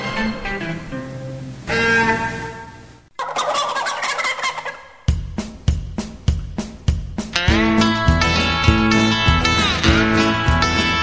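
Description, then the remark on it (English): Turkeys gobble loudly in a series of rapid, rattling bursts, several calls overlapping and following one another with brief pauses, and no voices. “Yes, there's trouble for the turkeys, and they've got good cause to fear.”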